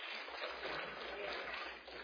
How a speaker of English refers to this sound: Now be careful if you're clapping because you're on the internet.